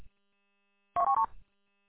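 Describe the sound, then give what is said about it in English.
A quick burst of three electronic phone tones as someone tries to hang up a call on a plugged-in phone buzzing on a bench, clear, followed by a brief soft rustle, with silence before and after. “Yep, still sitting here listening, trying to hang up on a phone call that the phone's plugged in, buzzing on my bench.”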